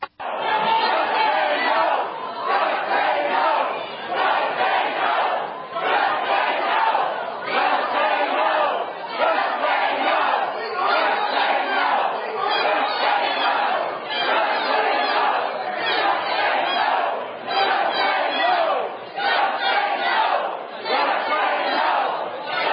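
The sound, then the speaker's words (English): An angry crowd of protesters shouts down a health care meeting in Austin, yelling together in loud, continuous waves, with rhythmic bursts of collective hollering rising and falling over roughly twenty seconds, drowning out any single voice. “So the crowd or the protesters really exploded, shouting down the whole idea of health care and what's being thrown out there in Austin.”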